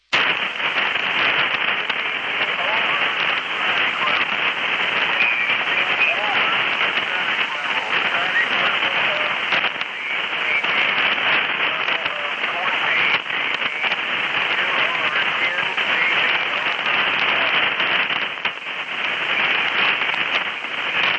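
Steady, loud shortwave radio static hisses and crackles without a break for the whole stretch, a dense band-limited rush of noise with no clear voice rising above it.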